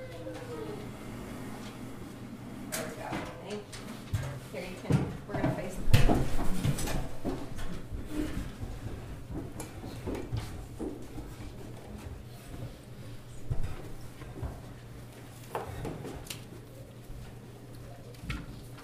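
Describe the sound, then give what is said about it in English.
Chairs scrape and thud against a hard floor as three people drag them up to a table in a class, several irregular bursts of moving furniture, with soft voices murmuring in the background. “Why don't you three bring your chairs, like, right up here, like we usually do for me in the class?”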